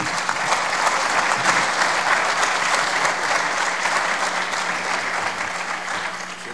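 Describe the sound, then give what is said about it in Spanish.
A crowd applauds steadily for several seconds to welcome guests, including the vice president of the Federación de Migrantes NAI-USA. The clapping is a dense, loud wash that holds its level and tapers slightly toward the end, with no voices over it. “Vamos a darles un fuerte aplauso, por favor, a todos ellos.”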